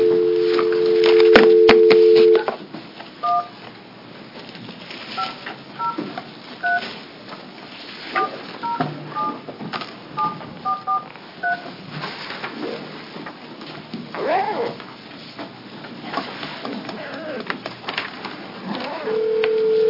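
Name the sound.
telephone keypad dialing tones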